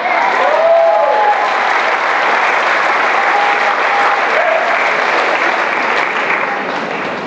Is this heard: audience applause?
yes